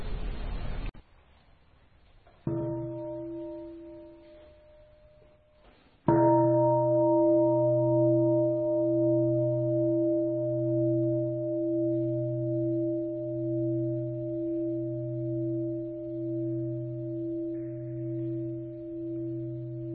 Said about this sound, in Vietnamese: nhờ quý thầy thỉnh tiếng chuông kéo dài ngăn nga để cho chữ nghĩa nó có cơ hội nó trở lại.